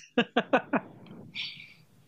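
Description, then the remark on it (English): A sneeze: four quick, rhythmic breathy catches build up, then a sharp hissing burst releases it, all over in about two seconds with no talking. “Bless you.”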